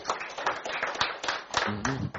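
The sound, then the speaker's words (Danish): A group of people at a company general meeting applaud to approve a proposal authorizing the board to buy the company's shares: a dense, irregular patter of many hands clapping at once, steady for a couple of seconds, with a voice briefly audible over it toward the end. “Hvis man klapper, så er det forslag også vedtaget.”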